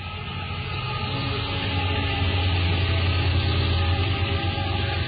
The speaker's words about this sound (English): That looks like liquefied natural gas. Yeah, big freight train. Big freight train going by in Ashland, Virginia. It's a lot of freight.